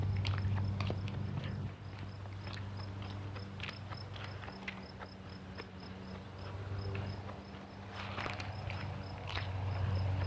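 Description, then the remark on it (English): Footsteps walk along at an uneven pace toward a back gate, each step a short scuffing crunch, over a constant high cricket chirping and a low steady hum. “Anyway, here I am at the back gate. Well, not quite. I got a few steps left. But I'm coming up on it.”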